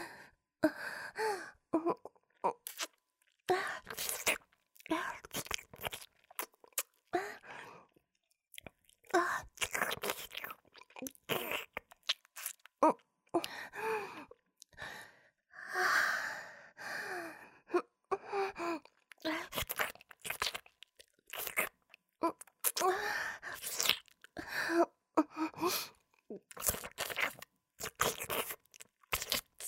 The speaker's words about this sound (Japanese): 飾りを舐められて、気持ちよくなっているはずだ。